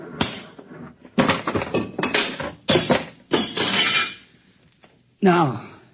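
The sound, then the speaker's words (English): A series of loud, heavy crashing blows as a big machine that controls a buzzer is smashed to pieces, about five hard impacts with rattling debris between them, followed by a brief voice near the end. “Stand back. What are you going to do? Do? I'm going to smash it.”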